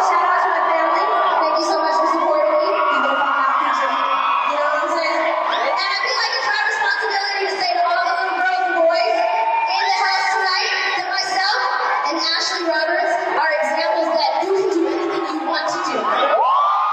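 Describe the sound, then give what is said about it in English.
A large concert crowd roars and cheers continuously, with high-pitched shouts and whoops layered throughout, loud and sustained for the whole stretch. “And then the crowd kind of roars.”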